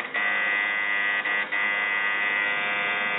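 A quiz-show buzzer, pressed by a contestant to answer a question, gives a steady, harsh electronic buzz without a break for about three seconds, with a couple of tiny dips in the middle. It is a bright, nasal tone with no voices over it.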